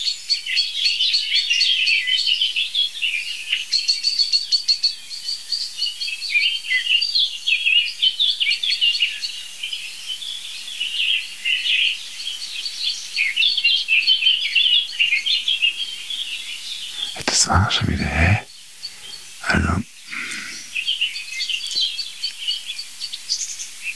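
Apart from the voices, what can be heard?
blackbird song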